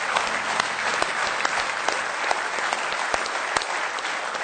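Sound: audience hand clapping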